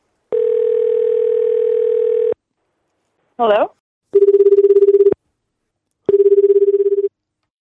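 A steady telephone dial tone hums for about two seconds, followed by a quick chirp of dialing, then two evenly spaced ringing tones as a call goes through to people in New York, Rio and Tokyo.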